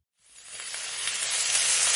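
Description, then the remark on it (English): Food sizzles on a hot grill in a radio promo for the Eats drive-thru: a steady, bright crackling hiss that starts abruptly after a brief silence and swells slightly louder as it continues, with no voices. “Hear that sizzle?”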